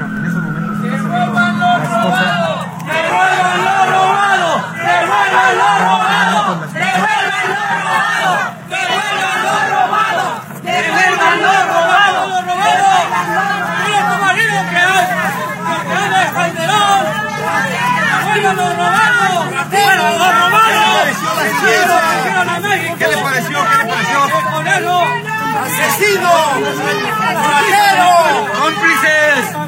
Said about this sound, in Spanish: de migrantes mexicanos que estaban en las afueras de la Corte de Nueva York, recibieron a la familia de Genaro García Luna luego de que se dictara la sentencia y así los despidieron de la corte a gritos de devuelvan lo robado.